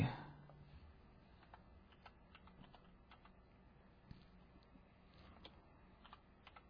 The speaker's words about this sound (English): Sorry about the slow typing. I'm used to a Mac. I am just not used to typing on this thing.